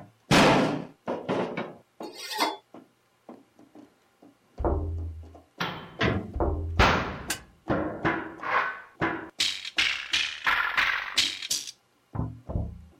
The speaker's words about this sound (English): I've got saxophones, bagpipes, you know, basement noise. Now, each key is assigned a different sound of them just banging on things in the basement.